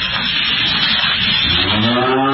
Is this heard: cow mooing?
yes